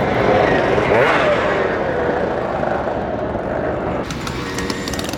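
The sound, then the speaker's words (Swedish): Many small two-stroke engines rev and buzz together in a loud, dense roar, with rising whines as old mopeds, 30 years or older, pull away at once at the start of a rally in Alingsås; a crowd murmurs faintly underneath. “Och så här lät det när starten gick för en halvtimme sedan.”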